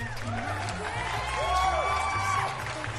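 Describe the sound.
An audience claps and cheers steadily for several seconds, a dense wash of applause mixed with whoops and overlapping voices from the crowd.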